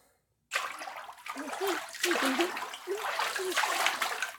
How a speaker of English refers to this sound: Hey, don't be so forceful when you're putting my head in the water. It might kick my instincts in, and I might think you're trying to drown me, and I might have to fight you back.